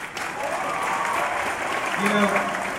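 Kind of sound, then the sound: crowd, audience clapping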